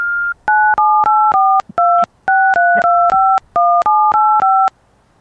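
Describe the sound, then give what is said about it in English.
A telephone disconnect tone sequence at the end of a voicemail call: a brief steady tone, then a rapid run of about fifteen short, loud two-pitch electronic beeps with clicks between them. No one speaks. “Yeah, that was the disconnect sequence.”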